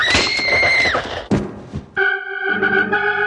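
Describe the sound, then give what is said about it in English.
A short burst of crackling as the ground cracks beneath a girl's feet while she picks a red wildflower near a house, then a sudden heavy thud as she falls into a big, dark, muddy hole, then a rumbling scrape, all sandwiched between bright sustained musical tones that return loudly afterward. “As Patty picked a pretty red flower, she heard something, a cracking noise beneath her feet.”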